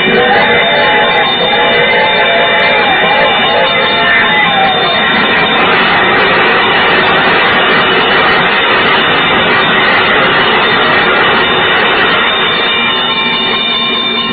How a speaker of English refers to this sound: There's the bell. Yeah? What's that, my dear? There's a train coming.